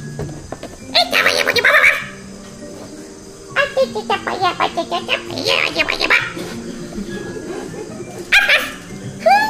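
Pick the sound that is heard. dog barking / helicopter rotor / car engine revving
dog barking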